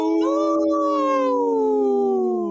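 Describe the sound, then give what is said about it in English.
A person imitates a wolf howl, meaning no to the Minnesota wolf hunts, with one long, loud, sustained note that glides slowly downward, heard alone without any talking. “So I speak wolf. When I say no, I go, how?”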